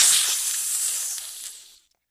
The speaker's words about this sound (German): Sogar eine Schlange.